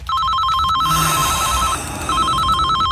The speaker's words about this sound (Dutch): Alweer die telefoon.